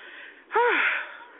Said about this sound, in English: We're going to leave off with a song, and hopefully I can get rid of this cough.